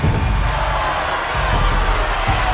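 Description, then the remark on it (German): A crowd of spectators accompanies fighters' manoeuvres with rhythmic applause that grows louder: a dense, steady roar of cheering and clapping, with a few heavier thumps recurring at a loose, uneven beat. No individual voices stand out. “Die Zuschauer begleiten diese Manöver mit rhythmischem Beifall. Das Klatschen wird lauter.”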